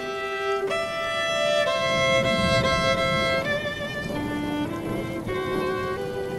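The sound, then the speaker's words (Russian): Heavy rain pours down in a dense, steady hiss that fills the whole stretch, with sustained, wavering musical tones sounding over the downpour. “Дождь по-прежнему лил, как из ведра.”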